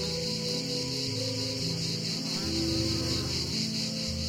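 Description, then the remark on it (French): A grey cicada sings a continuous, dense buzzing drone with a fast shimmering pulse. It stays steady and fairly loud throughout, with soft low tones underneath that suggest quiet background music. “Lorsque la cigale grise chante, on l'associe à la pinède, aux oliviers, à la chaleur.”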